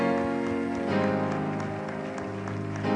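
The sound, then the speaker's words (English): A church audience at His Tabernacle Family Church claps together in a dense, steady wash of applause lasting the whole three seconds, giving God a hand clap, with a sustained musical tone humming beneath the clapping. “Can you give God a hand clap for fulfilling His vision?”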